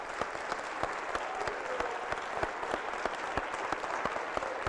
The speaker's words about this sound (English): Let's just clap for the Lord.